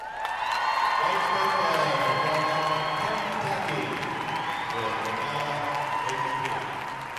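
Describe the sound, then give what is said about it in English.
A large crowd applauds and cheers steadily, a dense wash of clapping mixed with raised voices and whoops, loud and sustained throughout with no pause. The crowd is at an equestrian freestyle competition, applauding the horse Adaya's performance. “Adaya didn't simply perform well, she was an absolute superstar, rising to the occasion, loving the spotlight, the applause and the attention, and thriving on the energy of the crowd.”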